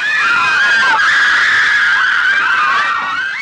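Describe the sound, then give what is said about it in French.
A shrill, sustained scream sound effect, loud, wavering in pitch for several seconds before fading slightly at the end, with no talking. “En l'ouvrant, j'entendis un hurlement strident qui me glaça le sang.”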